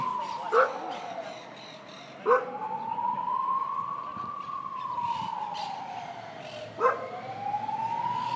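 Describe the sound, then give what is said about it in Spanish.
Ambulance and police sirens wail, rising and falling steadily throughout, while dogs around bark sharply three separate times, the barks spaced irregularly over the continuous siren; recorded on 13 June 2020 on a path between two keep-off-the-grass signs. “¿Escuchas las ambulancias? ¿La policía? ¿Los perros a nuestro alrededor?”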